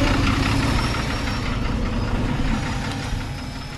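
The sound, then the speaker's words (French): The last bus from Turin idles at night in the cold as two men get off. Its engine makes a steady, low rumbling drone that holds even throughout and eases off slightly toward the end, with no voices. “Deux hommes viennent de descendre du dernier bus en provenance de Turin.”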